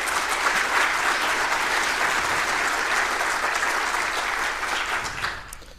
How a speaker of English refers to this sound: And yeah, big round of applause to them.